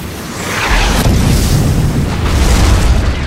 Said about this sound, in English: The fiery dart slammed through the pre-dark brick buildings and detonated with nightmarish force, grens falling everywhere. Broken bodies went flying as rolling tongues of orange flame rose from the collapsing structures.